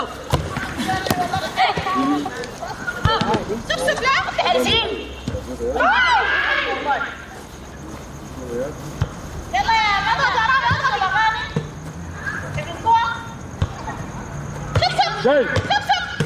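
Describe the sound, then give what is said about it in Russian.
A ball being dribbled during a team game, its repeated thumps loose and uneven, mixed with shouting voices and general chatter, while a faint high whine hums throughout. “Ты мяч-то веди. Продолжай вести.”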